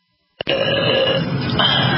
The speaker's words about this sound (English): Burp on your zesty salsa. Burp on your mashed potatoes. I bet you wish you can buy all the products that I just burped on, huh?